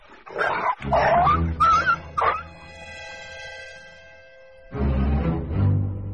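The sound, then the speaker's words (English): A big dog barks and yips in a quick run of loud bursts, followed by a high drawn-out whine, then another loud bark burst near the end. “那你有像布鲁这么大的狗吗？有吗？ 我也有只狗。”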